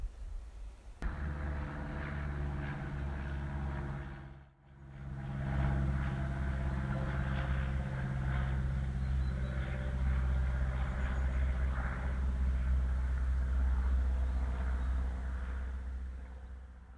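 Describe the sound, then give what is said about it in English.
A small propeller plane drones overhead above a sculpture park, a steady, buzzing engine hum with layered low tones that holds throughout, briefly cutting out near the start before resuming at a constant level. “As a little plane just flies overhead, we're now walking down quite a pronounced tarmac track, down deeper into the sculpture park itself.”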